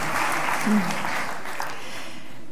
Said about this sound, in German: Ah, wie schön. Das, finde ich, ist echt ein Applaus wert.